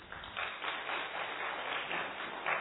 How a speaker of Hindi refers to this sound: Yes, आप please इनके लिए ताली बजाएं।